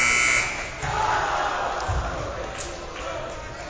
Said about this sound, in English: Rebound, Peabody, and there's the buzzer.